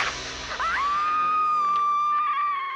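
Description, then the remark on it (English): Jamie Lee Curtis's scream from the 1978 horror film Halloween: a piercing, high-pitched cry that rises sharply, then holds one loud, steady shrill note for about two seconds before trailing off. No talking. “The glorious vocal cords of Jamie Lee Curtis in the 1978 cult horror classic Halloween.”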